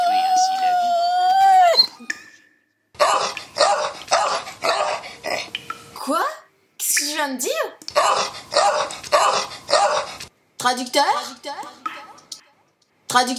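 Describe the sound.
A dog barks in quick, loud bursts, several sharp barks in a row, then another run after a short pause, with people talking before and between the barking.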